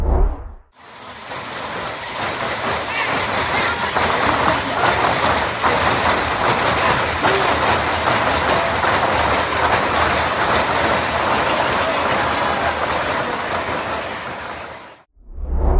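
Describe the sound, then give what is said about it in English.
A ballroom full of people at a gaming convention all shaking dice in cups at once at the start of a game of Liar Dice: a dense, continuous clatter, a steady bright wash of overlapping clicks that holds for about fourteen seconds with no clear speech. “So the whole room is just filled of everybody shaking their dice at once. I recorded a little audio of that.”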